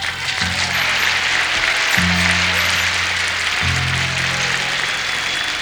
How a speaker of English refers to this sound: Clap loud on that, come on.